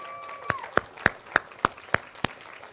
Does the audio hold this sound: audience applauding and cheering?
yes